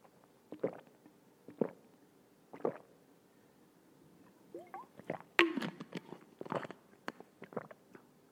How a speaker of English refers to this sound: In fact, now that we're talking about water, let me just take a little moment to drink. To take a sip from my water bottle here.